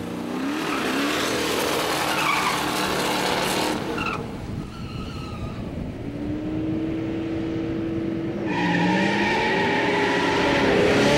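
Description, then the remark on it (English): A drag car launches hard, lighting up its tires with loud, squealing tire spin, the engine roaring and rising in pitch before a brief dip, then surging again with more screeching wheelspin. “First two times I lit the tires up a little bit too much.”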